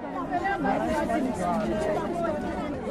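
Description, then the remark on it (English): A steady murmur of many overlapping voices, a crowd gathered at a municipal office in Soweto to complain about shoddy homes built by the ANC-led council, chattering all at once with no single speaker standing out, holding a fairly constant level throughout. “A crowd gathers at a municipal office in Soweto to complain about shoddy homes built by the ANC-led council.”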